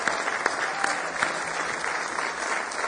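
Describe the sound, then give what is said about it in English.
An audience in church claps together on a Wednesday night, giving the Lord a hand clap of praise in sustained applause, a dense wash of many hands at steady volume for the full few seconds, with no voices standing out. “Give the Lord a big hand clap of praise tonight.”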